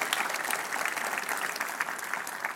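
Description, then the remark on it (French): An audience claps together in sustained, dense applause for God, many hands striking in a steady crackling wash at an even, moderate loudness with no voices standing out. “Est-ce qu'on peut applaudir notre Dieu qui est bon et qui veut se servir de nous aujourd'hui?”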